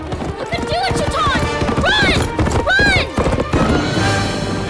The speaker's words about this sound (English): Behind, more steeds race neck and neck, trailed by a few stragglers and Shaitan. Racing single file down an incline, the competitors pass a grove of broad-branched trees.